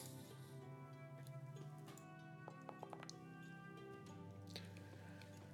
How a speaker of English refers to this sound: And we're going to roll the dice again.